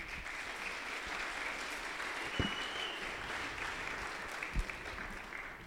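Steady audience applause for a person coming up on stage fills the whole stretch, a dense wash of many hands clapping at an even level, with a few sharper claps popping out above the crowd.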